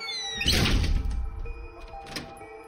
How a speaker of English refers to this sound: We stepped inside and he shut the door, entombing us in darkness.